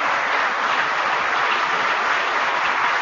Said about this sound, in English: Give the people at the department a round of applause.